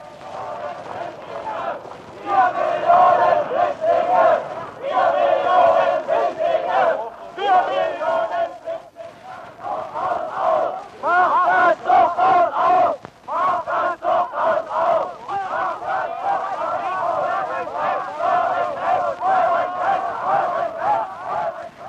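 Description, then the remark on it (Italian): Thousands of Berliners shout and chant in protest in front of the Brandenburg Gate, guarded by armoured cars and water cannons of the People's Police, a dense roar of many voices rising and falling in rhythmic waves, loud and sustained throughout with brief dips between bursts. “Davanti alla porta di Brandeburgo, presidiata dalle autoblindo e dagli idranti della Polizia Popolare, migliaia di berlinesi gridano la loro indignazione.”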